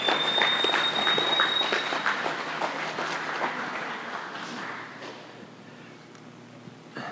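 An audience breaks into warm applause, dense overlapping clapping that holds steady for several seconds, then thins and fades out toward the end. No one speaks over it.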